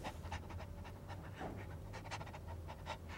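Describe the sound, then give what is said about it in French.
A dog, Gypsy King, Griselidis's dog, pants quickly and steadily, a run of short, breathy huffs repeating in an even rhythm over a low background hum. “Un ange déchu qui exerçait son métier librement dans son petit studio submergé d'archives sur la prostitution, où trônait sa fameuse photocopieuse et son chien, Gypsy King.”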